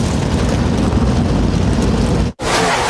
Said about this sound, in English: Drivers, start your engines! Engines come to life on the pit lane, the NASCAR Cup Series, getting ready to race at Talladega.